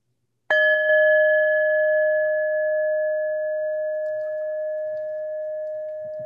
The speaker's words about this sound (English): Let me start us off by ringing our chime.